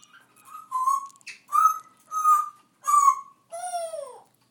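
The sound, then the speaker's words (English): A pet budgie calls alone in a steady run of five clear, whistle-like notes, each about half a second long, the last one sliding downward in pitch. “When I came back, he was on my shoulder while I fed the birds.”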